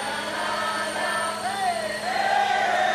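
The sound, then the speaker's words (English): A large outdoor crowd in Richmond, Virginia cheers continuously as crews use a crane to hoist an enormous statue of Confederate General Robert E. Lee off its giant pedestal, a dense wash of many voices shouting and whooping at a steady, fairly loud level, swelling slightly toward the end. “Amid happy cheers from the crowd, crews using a crane hoisted the enormous statue of Confederate General”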